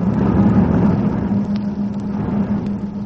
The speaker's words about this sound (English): They say that the fighting planes of many nations approach.